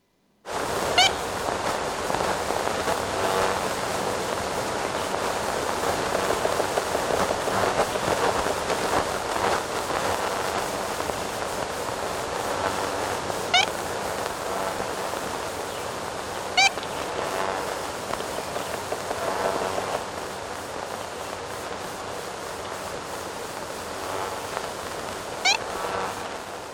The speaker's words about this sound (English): Here, consider the sound of the now extinct ivory-billed woodpecker. This recording is from that same 1935 expedition that collected those other Florida sounds. Listen. Please play the ivory-billed woodpecker.